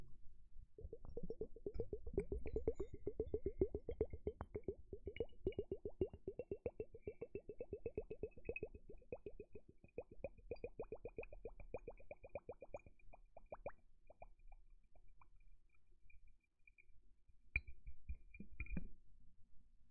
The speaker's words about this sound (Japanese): 今度はお水の音だけ。